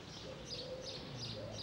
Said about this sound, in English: Music of the ages. Birds. Bird song.